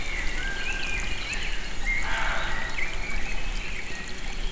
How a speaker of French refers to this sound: Un ruisseau lointain.